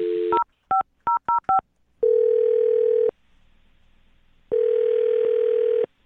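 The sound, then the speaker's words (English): A phone line's steady dial tone, then a quick run of five keypad beeps as a woman's phone number is dialed for a call on the radio show Brooke and Jubal in the Morning, followed by two long buzzing ring tones separated by a pause; clear, with no talking. “I'm about to dial her phone number.”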